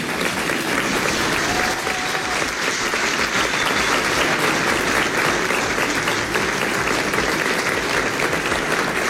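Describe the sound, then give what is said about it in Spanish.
Sustained applause from a large crowd at a ministerial ceremony as Interior Minister Carolina Toa embraces President Gabriel Boric. Dense, steady clapping continues for several seconds without letting up, with no voices standing out. “La vemos bastante emocionada, le agradece al presidente de la República, Gabriel Boric, se dan un abrazo, escuchamos los aplausos.”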